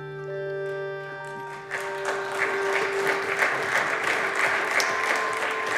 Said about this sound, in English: Mitt Romney earned himself a bipartisan round of applause on the Senate floor because he hit on the central dilemma and served up a high-minded illusion of a solution.